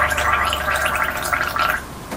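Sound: brushing teeth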